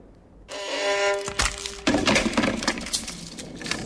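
A 17th-century violin made by Nicola Amati at Cremona is trodden on, a foot going through the bridge: its strings ring out in a sustained chord, then a sharp crack gives way to a flurry of loud splintering and crunching wood snaps.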